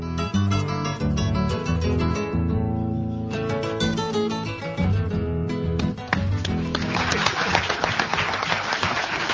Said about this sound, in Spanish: ¿A quién estamos aplaudiendo?